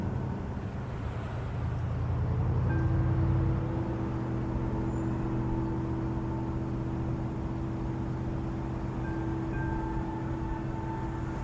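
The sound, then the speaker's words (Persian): A car engine rumbles past, swelling louder for a few seconds before settling into a steady low hum that lingers in the background. No one speaks. “باز همون ماشینه، یکی منو تحت نظر داره، جست گریخته فاصلهشو حفظ میکنه، کارشو بلده، ولی من حواسم هست.”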